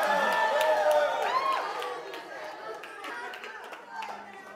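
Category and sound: crowd, audience cheering and clapping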